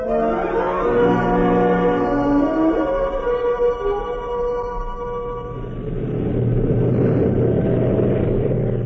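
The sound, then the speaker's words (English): An aircraft engine drones loudly with whining tones that shift in pitch, then swells into a steady, broad rumbling roar as the plane takes off into the sunset. No one speaks. “Streeter's plane took off into the sunset.”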